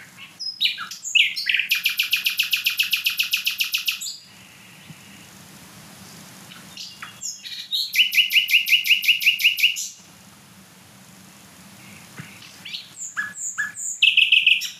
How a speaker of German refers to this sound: Also achtet einfach mal auf diese abwechslungsreichen Motive. Und ich meine, der Vogel ist kleiner als eine Amsel. Das ist, auch wenn jetzt kein anderer Vogel singt und so weiter, mega laut trotzdem.